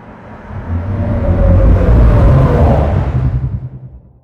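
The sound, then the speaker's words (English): A deep, rumbling engine-like drone, a spaceship sound effect made from underwater recordings of different whales and sea creatures, swells up over a couple of seconds, holds with a churning low growl and faint wavering tones above, then fades out. “And then this final version I made with some underwater recordings of different whales and sea creatures.”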